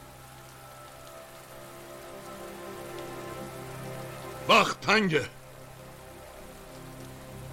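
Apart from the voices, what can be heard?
rain storm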